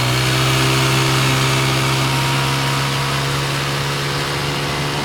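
A speedboat's motor is revved up, running loud in a steady, throbbing drone, its low hum holding even throughout with a constant rushing noise layered on top and no voices.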